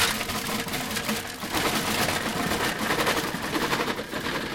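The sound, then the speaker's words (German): A shoemaker's shop's metal roller shutter rattles steadily as it is rolled open at 7:45 in the morning, a dense, rapid clatter that stays loud and even for several seconds with no voices. “Morgens um 7:45 macht Herr Pöschk den Rollladen seines Geschäftes auf.”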